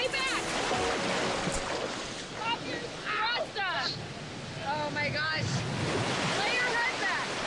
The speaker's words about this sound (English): Waves are crashing so hard on her and she's getting seaweed in her face.